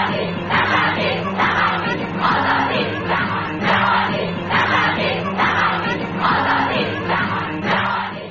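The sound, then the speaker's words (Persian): A crowd of Iranian women at their first political rally, held in the first days after the revolution's victory to protest compulsory hijab, shouting together in a loud, steady rhythm, their voices rising in repeated bursts like a chant that carries on without pause. “صدای فریادهای آنها برای همیشه در تاریخ ثبت شده است.”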